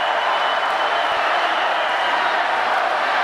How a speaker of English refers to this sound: I want you to just hear the crowd, a quick snippet. Of Vice President Harris talking to a huge crowd out in Las Vegas, a key swing state this weekend.